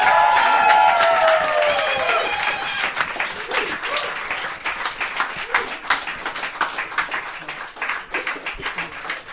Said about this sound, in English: Yeah, keep clapping until he's done eating.